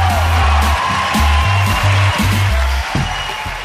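A crowd claps and cheers steadily, a dense wash of applause layered over music with a loud, pulsing bass line that repeats in short steps.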